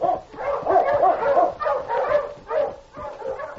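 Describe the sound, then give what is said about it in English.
Sled dogs bark and yelp excitedly in a rapid, overlapping string of high-pitched calls, fairly loud, with no voices in between, as the dog team is urged to start pulling a sled. “Now get the dog started, quick. Mush! Mush, get along here!”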